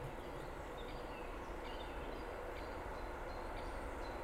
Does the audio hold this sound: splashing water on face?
no